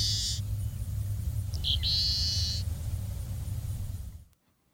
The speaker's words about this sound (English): In July of 1960, in a marsh beside Cape Canaveral, as the nation's first weather satellite, launched not long before, circled unseen somewhere above, two naturalists made this recording of a dusky seaside sparrow. This species went extinct in 1980.